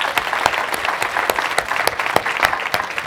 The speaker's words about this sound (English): Let's give them a round of applause for doing this for you guys.